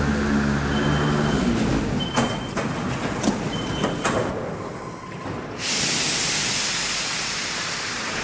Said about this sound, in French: Et là, elle va aller travailler, il est 7h30 du matin. Nous allons la suivre sur la ligne 13 du métro pour l'accompagner à son travail.